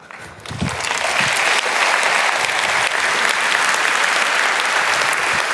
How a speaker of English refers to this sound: That's not my applause, that's your applause, because you make this possible, really.